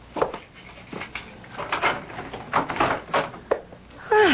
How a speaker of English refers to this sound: You certainly have a complicated lock on that door. Oh, just security measures.